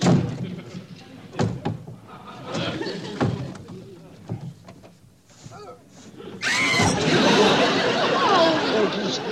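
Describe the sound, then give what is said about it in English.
A closet door rattles and thumps open with several sharp knocks, followed by a loud, sustained crash and clatter. Faint voices murmur in the background. “How do I get them out? You open the closet door.”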